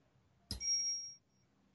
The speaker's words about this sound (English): You don't hear that? Am I going? That bell? I hear a bell. Oh, yeah. I don't know where that's coming from.